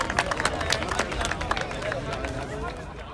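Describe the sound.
A crowd cheers and claps for the freestylers, with dense, steady applause full of sharp hand-clap spikes and loud voices shouting over it, holding a strong level throughout.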